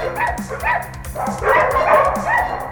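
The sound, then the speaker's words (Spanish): A dog barks again and again in a quick, steady rhythm, fairly loud, over a low pulsing background sound. “Si tenés un perro, la responsabilidad de lo que haga es tuya.”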